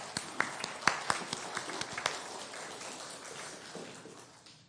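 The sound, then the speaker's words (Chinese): A church audience claps together for God, after thanks to the choir, in a fairly soft burst of irregular, overlapping hand claps that thins out and fades away over a few seconds. No one speaks. “我们真的很感谢我们的诗班，我们一起向上帝来鼓掌。”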